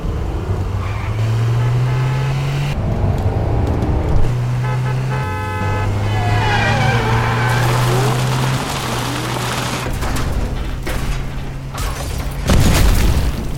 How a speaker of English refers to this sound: Did you see what happened? That car, we went into their lane. Instead of just crossing the line and breaking the law and going into our lane, they went into a ditch and most likely died.